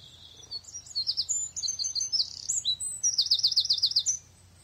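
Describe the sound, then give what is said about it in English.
Lively birdsong fills the air, with rapid high chirps and trilling tweets in quick bursts over a faint low hum, continuous before trailing off. “Do you hear the birdies tweeting?”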